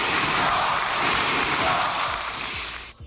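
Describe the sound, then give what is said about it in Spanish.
The Socialist benches in parliament give the president a standing ovation, a dense, continuous wash of clapping that holds steady at full volume for about three seconds, then cuts off sharply. “Enfrente, los aplausos en pie de la bancada socialista al presidente.”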